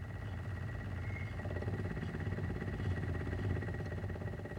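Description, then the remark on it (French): A steady mechanical motor hum drones throughout from a vacuum pump and a vibrator holding a chromatography column while the column is filled with inert support coated in stationary phase. A dense low rumble and a faint rapid buzzing vibration are layered on top, constant in loudness with no speech. “L'aspiration de la pompe à vide et les vibrations donnent un remplissage régulier.”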